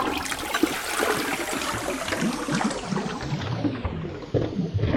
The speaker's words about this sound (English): He kept insisting on flushing the toilets in each building to show me